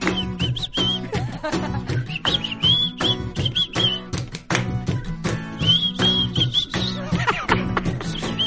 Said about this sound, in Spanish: Tú tienes que chiflar